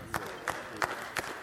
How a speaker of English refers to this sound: One more thing, because I got two people to clap on that.